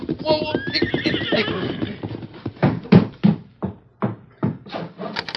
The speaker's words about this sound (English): A broad wagon trail led directly to the house, and it echoed now at the hoofbeats of a horse ridden by the widow's youngest son